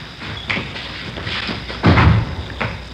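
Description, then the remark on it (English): A door is opened and pushed shut: a few light clicks and knocks, then a heavy thud as it closes, followed by a softer knock. No one speaks. “Here, I'll get the door.”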